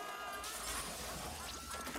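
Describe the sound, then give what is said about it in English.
Glass shatters in a loud, bright crash as a man pushed in an office chair smashes through a large round office window, spilling into a sustained spray of tinkling fragments, dense, with no voices. “He pushes Fred in his chair, and he careers through the office floor towards a large round window. He smashes through, but is held by a cable attached to his headgear.”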